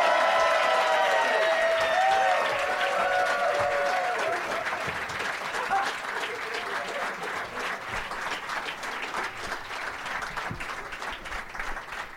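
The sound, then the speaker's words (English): A crowd at the American Comedy Company in San Diego bursts into loud applause with whoops and cheers, welcoming comedians Mike Kaplan, Billy Bonnell and Graham Elwood. The clapping is a dense, steady patter that tapers slightly while hoots ring out over it in the first few seconds. “Please give a big, warm San Diego holiday taint welcome to Mike Kaplan, Billy Bonnell, and Graham Elwood.”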